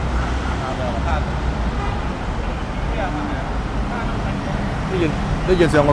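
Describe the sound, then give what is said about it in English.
A car engine runs amid loud, continuous street traffic, a steady rumble with murmuring voices in the background and a brief higher tone near the end. “There's the sound of a car running.”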